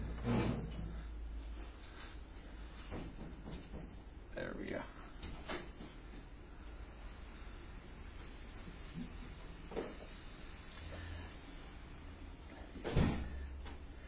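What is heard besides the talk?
door being opened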